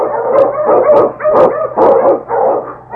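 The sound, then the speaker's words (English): King, a Malamute sled dog and Eskimo lead dog, barks and howls repeatedly in a steady series of drawn-out, wailing yowls. It is loud, with no other voices present. “Come, you Malamute!”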